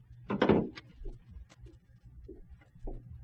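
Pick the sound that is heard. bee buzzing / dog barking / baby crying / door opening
door opening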